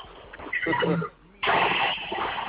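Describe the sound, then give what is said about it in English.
A toilet flushing, heard over a caller's phone line from Houston, Texas: a muffled, band-limited rush of water that swells, drops out for a moment, then returns loud and steady for over a second before easing slightly. “Sound like a toilet flushing.”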